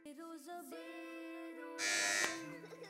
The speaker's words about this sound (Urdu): Buzzer بجائی ہے الحرم Islamic school کی team نے.